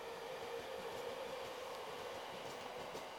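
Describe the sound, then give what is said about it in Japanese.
A local commuter train of 15 cars with four doors each rumbles steadily into platform 3 of a station, its continuous rolling roar joined by a sustained motor whine, with faint rattles and clicks throughout and no voices. “間もなく3番線に普通小が行きが参ります。危ないですから黄色い線までお下がりください。”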